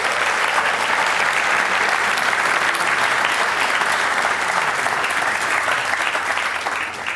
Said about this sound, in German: Herzlich willkommen, vielleicht auch nochmal mit einem großen Applaus von hier.